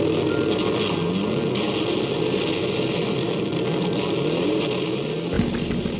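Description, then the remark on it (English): Loud, distorted guitars roar continuously in imitation of a revving motorbike, their pitch sweeping up and down like a throttle, before the sound shifts abruptly near the end. “When I was listening to the song, me and my siblings would like sing along in all of the big parts, and we were just hooked on the way that like the motorbike sound was created by guitars.”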